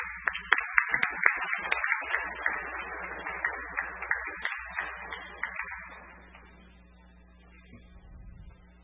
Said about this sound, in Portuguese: E eu, se o senhor presidente me permite, para encerrar, vou pedir uma salva de palmas, não para nós que falamos aqui, mas para você, agricultor, que está aí sentado.